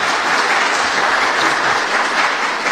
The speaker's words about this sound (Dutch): Ik wil even het publiek erop wijzen dat een applaudisseren en geven van tekenen van afkeuring of goedkeuring eigenlijk niet is toegestaan. Dus als u dat even voortaan achterwege houdt, dat kan niet.